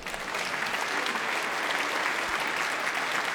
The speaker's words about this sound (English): A big round of applause for the rhythm section, please. …, ladies and gentlemen